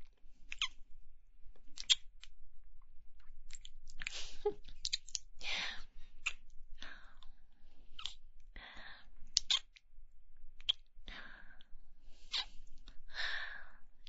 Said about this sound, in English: How about some little kisses on the base of your shaft? Like this.